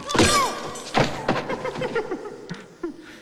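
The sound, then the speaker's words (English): A sharp blow lands as a crook pistol whips a man in a lab, followed about a second later by a heavy thud of his body hitting the ground, then scattered shuffling and clattering settling down. “He pistol whips him to the ground.”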